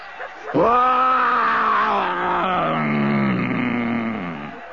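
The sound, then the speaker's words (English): A single long, loud roar held for about four seconds, deep and throaty with a slowly falling pitch, most likely a human voice imitating a lion, heard alone. “Stand back. I'm going to roar again.”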